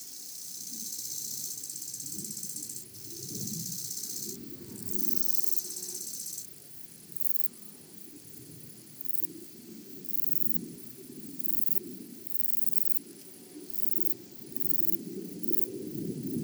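A bush-cricket, Platycleis tessellata, chirps with a fine, very high-pitched trembling buzz that pulses steadily throughout, over the continuous low rumble of an arriving airplane.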